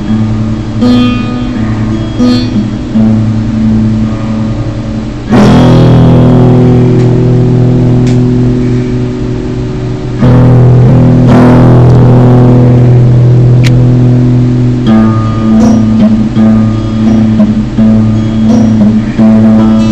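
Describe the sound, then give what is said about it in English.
Steady, loud rain hiss over a deep, continuous rumble, with two sudden thunderclaps surging in partway through and rolling on. No one speaks. “With Thunder by Key Jazz and Rain by WPPK.”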